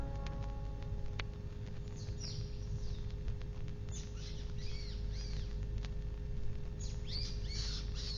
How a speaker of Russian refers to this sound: Птичка, почему ты так кричишь? Что-нибудь случилось с птенцами? Да не щебечи ты так, я ничего не могу понять.